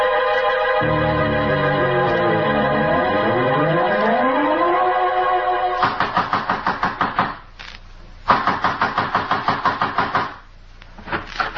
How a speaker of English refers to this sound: trying to break down the door?